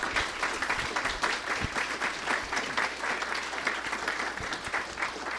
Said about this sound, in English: And I just want to give you guys a round of applause coming out.